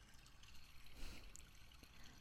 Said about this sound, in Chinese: 不就是一条小溪吗？我自己也能趟过去。